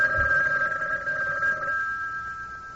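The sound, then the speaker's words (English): A telephone rings steadily with a bright, sustained electronic tone that holds for nearly three seconds, moderately loud, with a faint low thump near the start and no talking. “He started for the door, but stopped short as the phone rang.”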